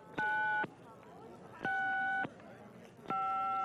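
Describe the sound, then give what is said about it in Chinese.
A cell phone whose battery has run out gives three steady electronic beeps, each about half a second long and evenly spaced, like a low-battery warning, loud over faint background noise, outside a theater. “Darn, my cell phone is out of juice.”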